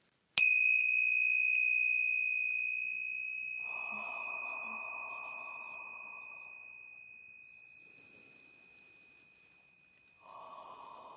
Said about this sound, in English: So I'm going to ring the tincture bells to clear out any lower energy and create a pure sacred space for our trance channeling today.